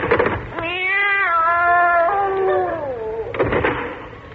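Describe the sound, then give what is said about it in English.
A single long, drawn-out meow from a cat found in a drawer wavers and slowly falls in pitch for nearly three seconds, fairly loud, with a brief rattling clatter just before and after it. “Nothing in there but a cat.”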